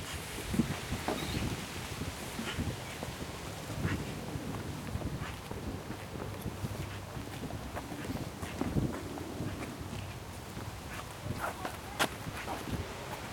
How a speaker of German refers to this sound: Ist das eine Pappel hier? Die Blätter hören sich immer besonders krass an, finde ich. Das ist wirklich ein Geräusch, was ich sehr, sehr mag. Dieses Geräusch von Wind in Bäumen mit Blättern.